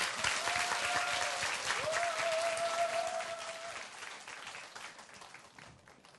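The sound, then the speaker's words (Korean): An audience applauds to welcome a musician on stage, a dense, steady wash of clapping that fades toward the end. Two long sustained tones, like a held whistle or feedback note, sound over the clapping. “큰 박수로 환영해 주세요.”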